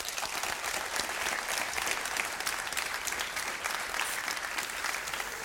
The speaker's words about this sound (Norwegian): Tusen takk til alle dere som kom hit, og en stor applaus til denne mannen